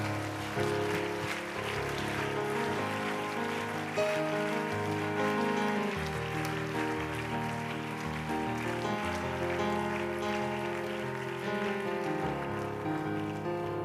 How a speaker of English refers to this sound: Why don't you give the Lord a hand clap of praise as he comes?